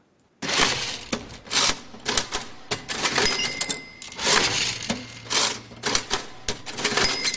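A cash register clatters with rapid mechanical key strikes and rattling, punctuated by short bright bell rings, fairly loud, with no one talking.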